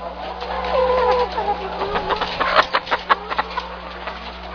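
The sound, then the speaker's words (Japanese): A dense chorus of about 2,000 chickens clucking and squawking together in an enclosed poultry house about 63 meters long on a chicken farm, with a run of sharp, loud individual clucks standing out near the end over a steady low hum. “鶏舎にやってまいりました。皆様この声を聞いてください。”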